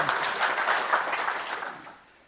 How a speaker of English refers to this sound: You're probably applauding because I'm getting close to the end here.